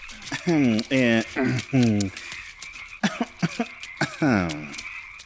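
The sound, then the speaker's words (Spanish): A voice imitates a frog's croak in a series of loud, drawn-out, rhythmic ribbits, followed by shorter choppy croaks and one final long croak. “Parece el croar de una rana y el croar es la cosa más musical del mundo.”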